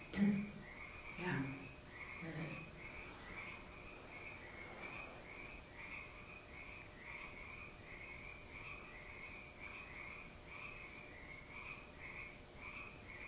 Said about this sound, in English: The frogs are back. I know. They know in 1 week it's going to be light at 7 o'clock.